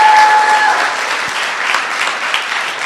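A crowd of people claps steadily, a dense wash of applause that holds its level throughout, with a brief steady tone sounding at the start.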